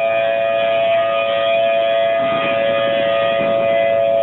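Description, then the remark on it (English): A city tornado siren in Oklahoma City, Oklahoma, sounding during its weekly Saturday test, wails in a steady, sustained tone across the whole recording, loud and droning with an outdoor quality and no voices. “Severe weather is the norm there, so the city's tornado sirens are tested every Saturday.”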